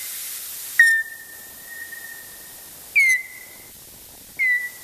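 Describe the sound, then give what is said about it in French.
Bat echolocation calls, slowed down: three separate calls, each beginning with a sharp burst and then holding a steady, high whistling tone. The first call lasts longest, and no voices are heard. “Voilà, là, on vient d'entendre des sons de décolocation, c'est-à-dire...”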